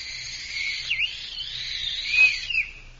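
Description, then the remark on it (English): A single long, shrill blast on a battered, musty little old tin whistle, breathy and slightly wavering in pitch with a couple of dips, heard alone for about three seconds. “As if to mock me, I absent-mindedly picked up the little tin whistle which was in the box of old things.”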